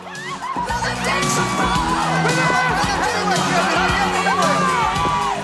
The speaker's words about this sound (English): Male and female winners scream and shout with jubilation.